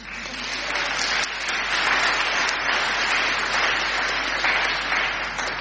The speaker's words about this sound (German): Und einen kleinen Applaus können wir auch mal geben.